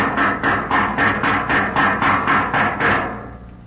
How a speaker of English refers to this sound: Nope, nothing doing. It will prove useless to knock more